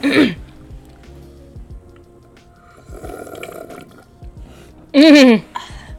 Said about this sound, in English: Okay, and the ASMR with the liquid. Give me a cheers. Oh, yeah. Oh, bottom? Bottom. Nice. Okay, and we'll take a sip now.